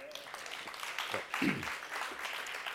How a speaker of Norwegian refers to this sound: Kan vi si amen til det? Ja. Og en applaus.